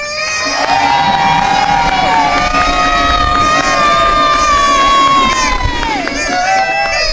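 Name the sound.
crowd cheering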